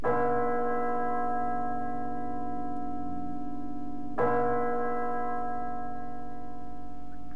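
A school bell is struck twice, about four seconds apart, each loud, resonant tone ringing out with a long, humming decay. No voices are heard.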